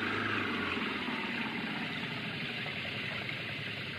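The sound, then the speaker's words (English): The engine of a French car stuck in the mud roars steadily for several seconds as it is given the gun, a dense, rough mechanical drone with a low rumble underneath and no clear breaks. “The French car, they're stuck in the mud. Give it the gun,”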